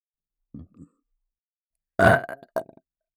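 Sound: burp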